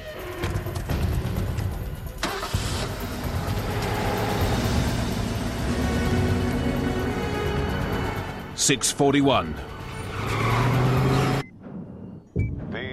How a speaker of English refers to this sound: Jack steals a set of keys from the valet stand, and they jump into a fast, sporty Pontiac. Jack revs up the supercharged engine, and they disappear into the hum of LA traffic.